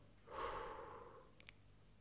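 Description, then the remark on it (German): A single long, breathy exhale through the mouth as part of a 4-7-8 breathing exercise, rising quickly and fading out over about a second, fairly soft, followed by a couple of faint clicks. “Atmen Sie erst aus durch den Mund. Machen Sie ruhig Geräusche dabei.”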